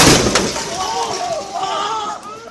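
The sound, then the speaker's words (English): A loud, booming explosion near Al-Shifa Hospital in Gaza City bursts at the start with a sharp crack and rumbles away, followed by raised, wavering voices that rise and fall over the fading noise. “An explosion heard close to Gaza City's Al-Shifa Hospital.”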